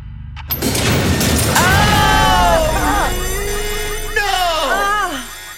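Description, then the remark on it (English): A door-closing sound effect: a sudden loud burst, then two rounds of wavering, downward-sliding tones that ring out and fade over several seconds. “Door closed at 670.”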